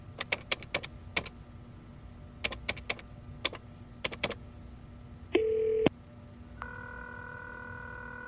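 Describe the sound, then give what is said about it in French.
A series of sharp button presses as a number known by heart is dialed on a desk telephone, the handset cord pulled taut, in quick irregular bursts, followed by a short tone and then a steady ringing signal on the line. “Il a pris le combiné posé sur son bureau. Il a tiré le plus possible sur le fil du téléphone pour s'éloigner de moi.”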